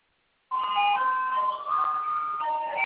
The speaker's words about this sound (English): Okay, she's outside with the ice cream truck.